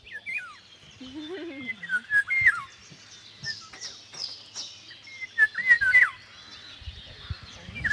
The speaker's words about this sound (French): Ça, c'est le loriot d'Europe. Un très bel oiseau, surtout le mâle, bien sûr, qu'il est plus coloré que la femelle. C'est un oiseau jaune, qui est délicieux. Enfin, pas par le goût, par le chant et la couleur.